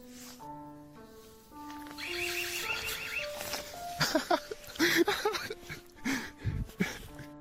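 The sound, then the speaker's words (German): Rainer Winkler's new home alarm system going off, heard in a visit video: a run of steady electronic beeps stepping up and down in pitch, then loud, harsh, squealing bursts of noise. No one speaks. “In einem Besuchsvideo von diesem Tag war auch Rainers neue Alarmanlage zu hören.”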